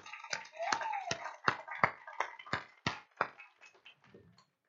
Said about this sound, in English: Oh, and oh, please give our youth another round of applause.